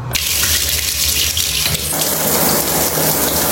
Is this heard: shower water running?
yes